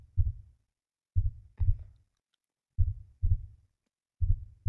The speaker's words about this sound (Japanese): 聞こえる？私の心臓の音が。